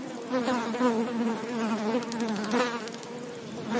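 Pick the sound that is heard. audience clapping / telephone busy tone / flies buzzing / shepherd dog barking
flies buzzing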